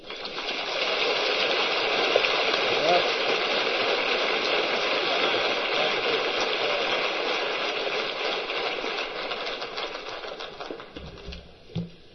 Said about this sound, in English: Yeah, with all that applause, I can hardly wait to hear what I've got to say.